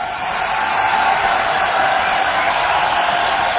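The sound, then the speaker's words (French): A large crowd roars and cheers José Bové continuously, a dense wash of voices holding steady and loud throughout, with no single speaker standing out. “Voilà, José Bové a tenu par la foule.”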